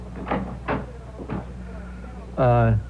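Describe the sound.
A door is handled and opened with a few hollow wooden thumps and clunks spaced apart, followed by a brief burst of a person's voice.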